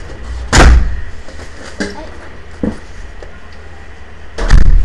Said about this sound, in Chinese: 对，为什么他们出去的时候没有关门？好冷。 啊，那么现在去关一下。